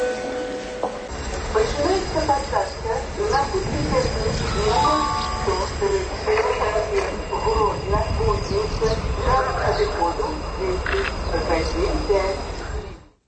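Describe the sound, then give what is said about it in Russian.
A reverberant public-address voice announces boarding for the train to Kuźnica over steady station noise, filling the whole stretch at a fairly constant, moderately loud level before cutting off at the end. “А тем часом обвешают посадку на тягник до кузницы.”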